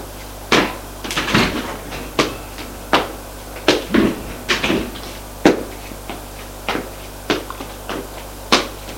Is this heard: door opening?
yes